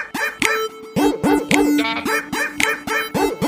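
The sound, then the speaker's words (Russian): Dogs bark loudly in a yard in a rapid, steady run of sharp barks, about a dozen in a few seconds, with no talking over them. “У меня во дворе даже лают собаки.”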